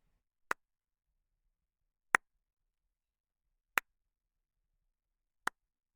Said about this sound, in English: And here is how claps would sound in my space.